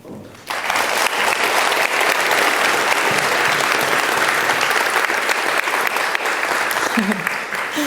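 An audience at the GPN breaks into sustained applause for a speaker, a dense steady patter of many hands clapping that starts abruptly and continues at full strength for several seconds.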